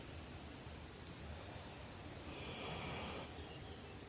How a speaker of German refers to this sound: Und so lasst uns alle jetzt in der Gruppe noch einmal tief durchatmen. Spür, wie dein Atem kommt und geht.